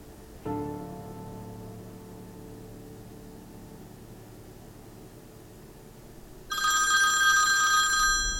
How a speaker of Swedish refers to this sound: Klockan var 6.25 på tisdag morgon när telefonen ringde.